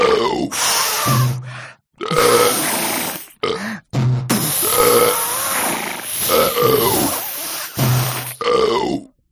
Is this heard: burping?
yes